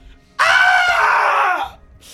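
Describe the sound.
One loud, piercing, blood-curdling scream of terror from a man rings out, held for over a second with a harsh, strained edge before breaking off abruptly, with no talking around it.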